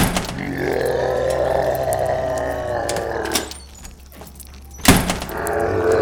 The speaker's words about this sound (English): Perhaps we could step into the hall. Oh, apparently it wanted me to open the door.